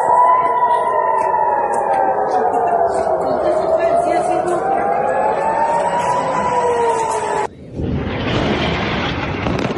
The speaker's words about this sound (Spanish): La madrugada de sábado, Hamás lanzó una lluvia de cohetes desde la franja de Gaza hacia Israel. 6:30 de la mañana comenzaron a sonar las alertas antiaéreas.